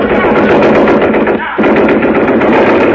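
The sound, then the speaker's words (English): Loud, rapid bursts of Thompson submachine gun fire, shooting blanks, carried by a man in a white mask: a dense rattling stream of shots that breaks off briefly midway, then resumes just as hard to the end. “A guy with a white mask on his face came in carrying a Thompson submachine gun.”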